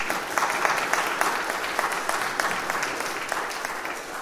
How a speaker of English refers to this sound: Well done to the choir for the first part of today's show. So just another round of applause for the choir, so well done.